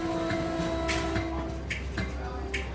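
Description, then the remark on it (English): A train rolls steadily along the rails with a constant low rumble, a faint tonal hum, and intermittent clacks of wheels passing over track joints, heard from inside the carriage on Walt Disney's train ride home from New York. “On the train ride home from New York, Disney was furious.”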